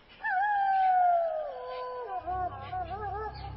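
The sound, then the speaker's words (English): A long, sustained wolf howl rises and slowly falls in pitch, then wavers; a second voice seems to join, with a low rumbling background underneath toward the end. “Then Laura heard a long, frightening cry from the dark prairie.”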